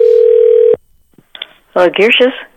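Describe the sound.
A loud, steady telephone dial tone, after the other caller hangs up, drones for under a second, then cuts off abruptly. A short hush follows, a few faint clicks, then a voice speaks briefly.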